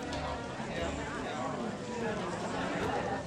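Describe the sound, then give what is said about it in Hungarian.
A large crowd on a nearby hillside murmurs steadily, a dense wash of many overlapping voices with no single speaker standing out, holding constant throughout. “Hirtelen nagyobb tömeg morajlása hallatszott a közeli domboldal felől.”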